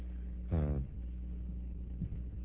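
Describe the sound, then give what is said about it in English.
A single dull, resonant thump from a microphone stand being banged, with a brief low ringing tail, then a steady low hum with no talking. “That was not a sound effect, that was me banging the microphone stand.”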